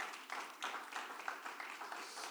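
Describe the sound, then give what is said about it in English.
A church audience gives the Lord a clap offering to honor its leaders and those who pray for them: a steady wash of many overlapping hand claps forming thin, fairly quiet applause with no voices, lasting a couple of seconds. “So give the Lord a clap offering for them.”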